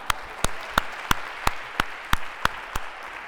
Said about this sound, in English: a big round of applause, especially for Maria